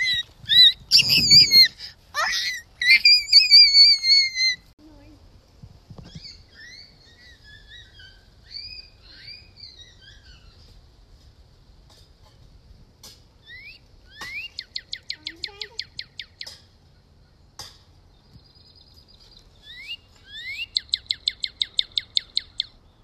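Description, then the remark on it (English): A northern cardinal sings alone: loud bursts of clear, down-slurred whistles, then rapid trilled runs of identical high chips repeated in quick, even series, with quieter chirps between phrases. “Yeah, it does sound like the cardinal.”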